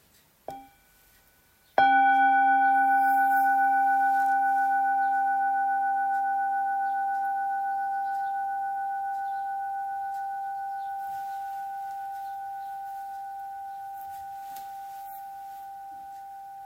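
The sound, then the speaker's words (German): A mindfulness bell gives a soft tap and is then struck fully to mark the next verse of a recitation, its clear, steady tone with bright overtones ringing on alone and slowly fading over many seconds. “Wir hören einen Klang der Glocke zum nächsten Vers.”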